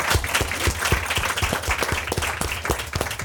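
An audience applauds steadily for an activist guest being introduced on a show, with many hands clapping together in a dense, sustained burst that stays fairly loud throughout.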